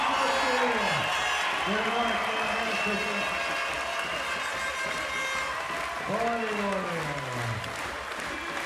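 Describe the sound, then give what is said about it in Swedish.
A large crowd cheers and applauds loudly and steadily as a Visby Ladies player raises the Swedish championship (SM) trophy, with individual voices rising above the roar in long, falling shouts and whoops. “Och så höjer hon bucklan. Hör jublet!”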